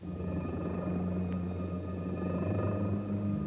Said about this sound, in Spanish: Me coloco las gafas y pongo en marcha una turbina que silba como un pequeño jet.